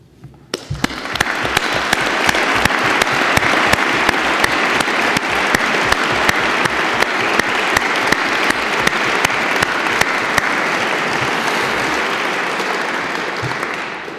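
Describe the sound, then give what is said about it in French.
Sustained applause from a large audience for prize laureates standing at an award ceremony, a dense steady clatter of many hands clapping for about fourteen seconds, starting abruptly and holding at an even, loud level before easing slightly at the end. “Je remercie ces lauréats de bien vouloir se lever pour accueillir vos applaudissements et les nôtres.”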